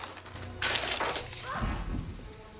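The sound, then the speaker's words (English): A sudden clattering rush of small hard objects spilling out of a handbag tipped open onto a surface, with metallic jingles of keys as a set of keys is grabbed, followed by softer rummaging thuds, moderately loud. “tipping open Rachel's handbag and grabbing a set of keys.”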